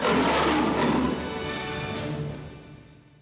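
A single loud, rumbling big cat roar, full-bodied, swelling at once and then trailing off over about three seconds, with no voices around it.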